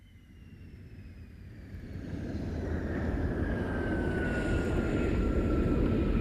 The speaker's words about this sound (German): Die Maschine aus Atlanta traf in Memphis am 3. April bei Sturm und Regen ein.